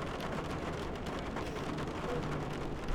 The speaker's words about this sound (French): Des paquets de pluie s'écrasent sur le tramway comme des vagues qui, de la hauteur d'une maison, s'écrasaient sur un navire.